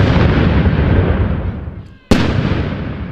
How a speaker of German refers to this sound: Ja, und es gibt Salutschüsse, ne?